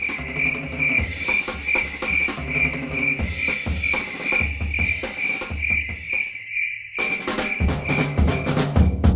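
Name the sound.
crickets chirping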